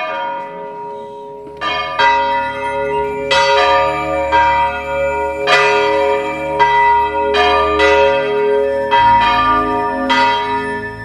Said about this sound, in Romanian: La miezul nopții, când se aud clopotele, toți oamenii intră în biserică unde preotul oficiază Sfânta Liturghie.